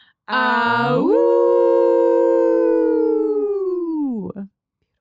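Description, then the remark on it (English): Several human voices howl together like wolves in one long, loud, sustained wail that rises at the start, holds for a few seconds, then slides down and breaks off; a group howl aimed at the council. “Are you ready to howl with us?”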